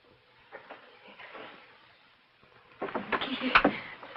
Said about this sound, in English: She pulls at the door desperately.